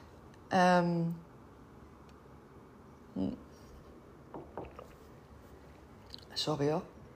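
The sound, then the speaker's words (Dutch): Mouth sounds of someone taking a sip of water: a short voiced gulp, then a few soft wet swallowing and lip noises spaced out over quiet, ending with another brief throaty swallow. “Was weer even een slokje water.”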